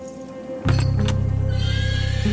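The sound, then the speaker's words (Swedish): A horse lets out a loud whinny that starts abruptly and holds a strained, wavering tone for nearly two seconds, with faint hoof clatter and rustling behind it. “De packar in hästarna i släpen och så åker de ut och tävlar.”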